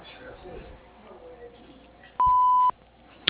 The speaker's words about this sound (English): If you'd like to leave a message here, please do so after the beep. Or if you have a fax to send, please send it now.